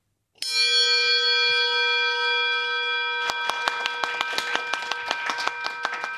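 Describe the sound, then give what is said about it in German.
A bell at the Adecco staffing agency in Bern, rung each time the team places someone in a job, is struck once. Its bright tone rings out loudly and sustains for several seconds while a steady run of sharp rhythmic taps or claps joins in partway through. “So läutet es jedes Mal, wenn das Team vom Personaldienstleister Adecco in Bern jemandem einen Job vermittelt hat.”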